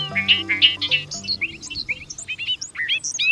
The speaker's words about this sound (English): Listen as a bobolink sings a rapid jangle of notes, like a meadowlark backed by a banjo. This bobolink is singing in central Maine, just north of Bangor, at Sunkhaze Meadows National Wildlife Refuge.